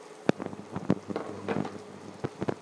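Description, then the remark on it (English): Water at a rolling boil in a wok, a steady hiss of bubbling with irregular louder pops and gurgles bursting through every half second or so. No one speaks. “This water definitely boils.”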